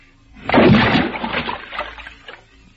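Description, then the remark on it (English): A rock plunges into a water hole with a heavy splash, followed by a couple of seconds of sloshing and dribbling as the water settles and fades out. “There's a water hole. Hey, what are you picking up that rock for?”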